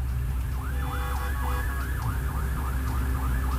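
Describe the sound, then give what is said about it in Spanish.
The siren of an arriving Carabineros police vehicle wails in rapid, repeating up-and-down sweeps in the morning, steady and fairly loud over a heavy low rumble of traffic or engine noise. No one speaks. “Ahí viene llegando la CIA de Carabineros, lo estamos captando justamente en vivo a esta hora de la mañana”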